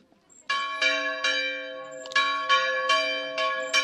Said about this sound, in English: The church bell echoed into the distance as we walked towards this place of prayer and stepped inside for a shared moment of worship.